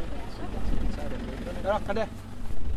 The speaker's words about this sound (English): I wait with him on a busy street corner in the province capital, Rabaul. It's late afternoon and dozens of flatbed trucks whiz by in the thick tropical heat.